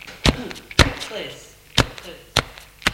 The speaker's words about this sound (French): Elle tape des pieds.